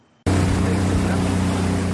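After a brief quiet moment, a motorboat's engine abruptly roars up, holding a steady, loud droning hum mixed with rushing water and wind noise as the boat moves along the San Juan River.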